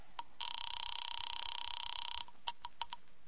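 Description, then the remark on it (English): A telephone line rings once with a steady, warbling electronic buzz lasting about two seconds, followed by a few sharp clicks on the line; no one speaks. The call is being placed to an office on the Murray Hill exchange. “Ringing Murray Hill”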